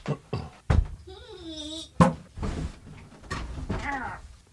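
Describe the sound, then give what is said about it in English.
People switching chairs: a few hard knocks and thumps, scraping and rustling, and a drawn-out wavering squeak of furniture moving, with no one talking. “Can we switch chairs? Yes. Okay, hold on.”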